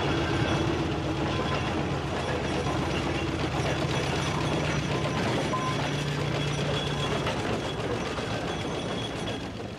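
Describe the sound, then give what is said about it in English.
A steamroller engine runs loudly and steadily, its worn gears producing a rapid, rhythmic clatter over a low droning hum, with no voices and no letup for the whole stretch. “Steamrollers, like, you get some engines with very badly worn gear in that you can't speak to anybody who's within, like, a foot of your head, you know, sort of thing.”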